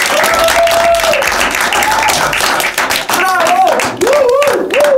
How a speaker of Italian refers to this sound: Perché io adesso, con il potere conferitami sì da tutte le emittenti radio nazionali e anche estere, io incorono tutti voi nuovi DJ di Radio Dinamo. Fatevi un applauso.